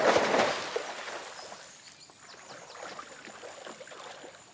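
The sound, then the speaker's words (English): A loud splash opens as a woman dives into a pool, followed by steady, softer sloshing and lapping water as she swims laps. “Discarding it to the side, she dives into the water.”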